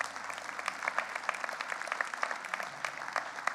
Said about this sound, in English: I'm thankful for all of those who've come and shared today. They all did an excellent job. Amen. Give them a good round of applause.